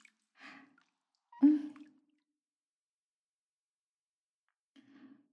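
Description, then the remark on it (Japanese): Three brief, soft, wet squishing sounds of soap foam being scooped up and rubbed around the neck during body washing, with a slightly louder middle one and quiet pauses between; no talking. “周りの泡をすくって、まずは首周りから。”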